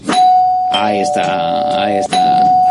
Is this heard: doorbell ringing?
yes